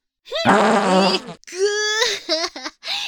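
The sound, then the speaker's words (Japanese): A long, loud, buzzy fart from someone constipated for a week, followed by a few shorter sputtering ones in quick succession, with no talking. “うわ、こいつおならの匂いも嗅ぐんすね、キモすぎ。”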